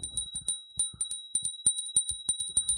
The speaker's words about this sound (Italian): Guarda, c'è il campanello alla porta, no? Aspetta, eccolo qui il campanello.